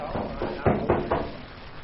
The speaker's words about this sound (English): Whoever it is sure pounding the door off. I'm coming. Wait a minute.